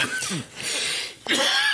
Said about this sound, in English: This cough is 100% scarf related.